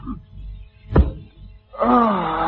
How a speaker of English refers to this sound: Hello? Who's that tapping on the side door?